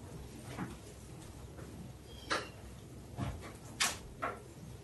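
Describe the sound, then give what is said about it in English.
A door is pushed shut, giving a few short thuds and clicks spread over a couple of seconds against a quiet background, with no one speaking. “Close the door.”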